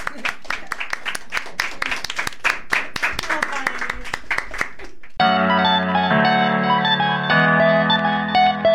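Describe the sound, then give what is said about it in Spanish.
An audience gives a strong round of applause for a guest of a broadcast programme, a dense burst of many hands clapping loudly for about five seconds, before it cuts off and steady music takes over. “Oye, le damos el aplauso fuerte.”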